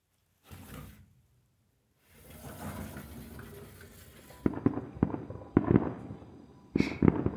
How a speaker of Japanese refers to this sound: あら？この音。そういえば今日は、隣の県でも花火大会があるんでしたわね。